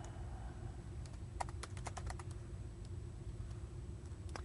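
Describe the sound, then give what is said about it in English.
Quick bursts of typing on a computer keyboard while filling in a website registration form, crisp key clicks tapping in an uneven rhythm over a steady low hum, fairly quiet, with no one speaking. “Yep, typing is not my best skill.”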